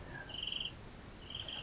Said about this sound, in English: Cricket.